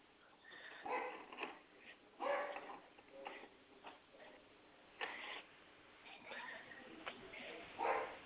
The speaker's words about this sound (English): We have a visitor at our house right now, so that's why they're barking. And I got so many dogs, just little dogs, but boy, do they bark. Sometimes they bark worse than the big dogs.